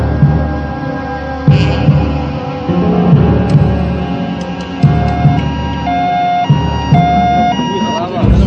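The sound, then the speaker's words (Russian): An ambulance siren wails steadily for several seconds, fairly loud, over a low throbbing engine hum, with faint indistinct voices in the background. “Но этого нам хватит до приезда скорой помощи.”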